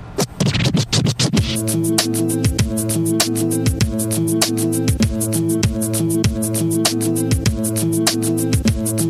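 A hip-hop track's instrumental intro opens with a quick burst of turntable scratching, then settles into a steady, heavy kick-drum beat under sustained looping synth tones, with no vocals yet.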